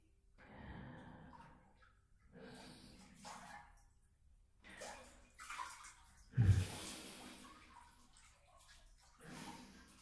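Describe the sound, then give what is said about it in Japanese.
Water sloshes and splashes in a bubble bath in soft, irregular bursts as someone washes their body while soaking in the tub, with one louder splash midway, accompanied by quiet breaths and small gasps. “泡風呂って、浸かりながら体洗うのもいいんだって。”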